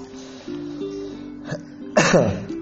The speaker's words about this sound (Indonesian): Maaf batuk.